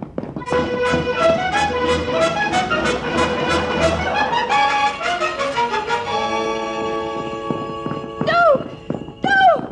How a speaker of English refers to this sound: Giddy-up, you horse, you. Giddy-up.